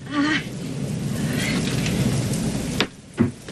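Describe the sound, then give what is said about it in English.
Steady rain pelts down on a ballfield during a rain delay in a dense, hissing wash, with low thunder rumbling underneath and a couple of sharp cracks near the end. “As the rain pelts the field, let's just sit back and let the picture tell the story.”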